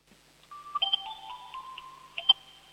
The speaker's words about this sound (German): Das ist ja eine coole Türklingel. Dafür gibt's einen Applaus.